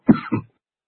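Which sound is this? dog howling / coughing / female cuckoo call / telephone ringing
coughing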